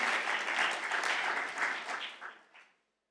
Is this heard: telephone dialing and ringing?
no